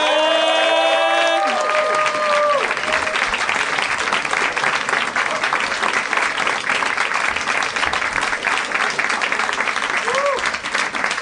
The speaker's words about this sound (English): Thank you. Thank you very much. That was lovely applause, and it made me feel 8 times more self-estimatious.